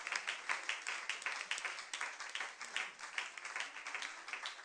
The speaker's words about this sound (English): Okay, we praise God, amen. We want to give them another round of applause, amen.